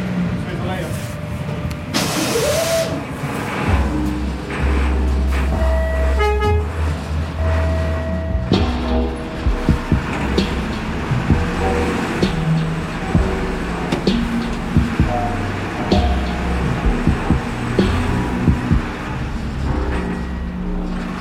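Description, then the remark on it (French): A loud machine, driven by an operator, rumbles steadily through dark, dusty underground mine galleries about 3–4 metres wide, its heavy, low engine drone mixed with clanking and hissing, plus a brief horn-like tone near the start. Voices occasionally come through. “Il y avait donc cette machine qui faisait beaucoup de bruit.”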